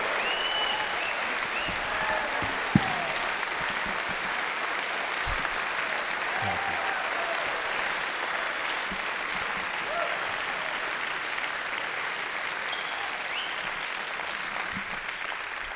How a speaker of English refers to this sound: Pretty sneaky way to get applause, isn't it? Got you. You are a great noisy crowd, and I appreciate it.